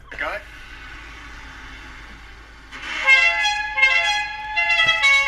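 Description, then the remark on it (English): A loud, multi-tone bus horn blares after a quieter stretch of rumbling, sounding in a few sustained, slightly pulsing blasts that fill the second half. “So I just want to just play a quick clip of what the bus is actually sounding like.”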